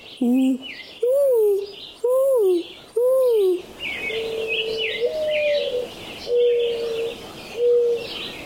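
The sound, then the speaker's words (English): A boy imitates a mourning dove, giving four loud, rising-and-falling hoots in a steady rhythm, followed by softer, longer cooing tones over faint background noise. “I can imitate a mourning dove.”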